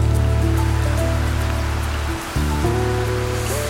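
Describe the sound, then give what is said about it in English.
Rain falls on and off on a winter day in May at a wine farm on the lower reaches of Simonsburg Mountain near Paarl and Stellenbosch, South Africa, in a constant hiss, with a low sustained musical drone whose tones shift partway through. No one speaks. “It's raining on and off on a winter day in May when I stop by the Baxburg Estate Cellars.”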